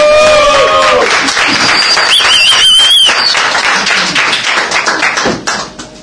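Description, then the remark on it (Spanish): An audience at a comedy show bursts into sustained applause for the third comedian of the night, dense clapping with a few whistles and cheers mixed in, staying loud for several seconds before tapering off at the end. “¡Un aplauso!”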